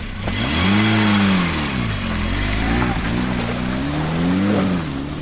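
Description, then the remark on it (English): An Austin Allegro car engine revs loudly, its pitch swelling up and sagging back down in a few uneven waves over a steady rumbling idle, with no talking. “So with little legroom, poor gear changes and everything falling apart, this week's Austin Performance Car of the Week is the Austin Allegro.”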